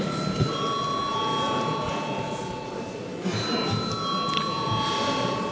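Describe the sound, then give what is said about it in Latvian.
A parliament voting bell rings continuously for about five seconds before deputies vote on amendments to the children's rights protection law in the third reading, a steady, shrill electric tone with layered high pitches, over a constant murmur of people talking. “Paldies, lūdzu zvanu.”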